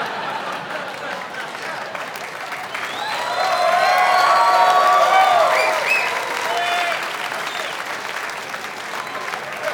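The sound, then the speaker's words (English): A crowd applauds steadily throughout, with a burst of high cheering and whooping voices swelling in the middle before the clapping settles back to a constant patter. “A lot of excited, soon-to-be lonely people in the crowd. Woohoo!”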